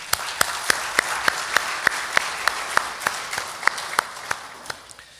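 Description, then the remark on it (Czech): An audience applauds steadily for about five seconds, a dense wash of clapping with sharper individual claps standing out in a regular rhythm, moderately loud, with no talking. “ale stejně můžeme zatleskat, třeba nás poslouchají online.”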